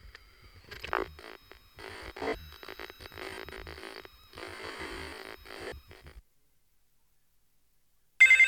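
A telephone rings with a buzzy electronic trill in uneven bursts for several seconds, falls silent, then a sudden loud burst of sound cuts in right at the end.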